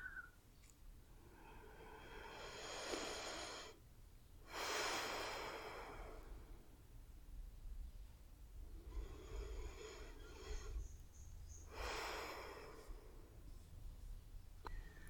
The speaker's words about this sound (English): I need to feel your heartbeat slow down to normal. Listen to your breathing.